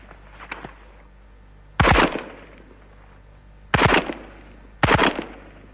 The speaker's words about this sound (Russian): выполнял первое упражнение одиночной стрельбы из автомата. При этом наблюдал две цели. Первая цель поражена, вторая поражена. Патронов израсходовано 6.